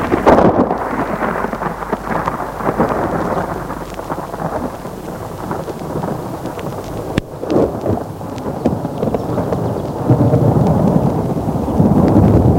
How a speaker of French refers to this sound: Toujours eu peur de l'orage. Un coup de tonnerre retentit.